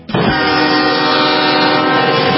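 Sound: train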